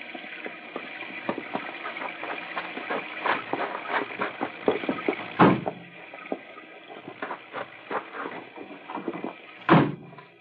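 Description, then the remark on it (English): Two solid thumps of car doors closing, one midway and one near the end, over a bed of shuffling, clicks and rustling movement as the car doors are opened and closed, with no one speaking. “I'll open the car doors.”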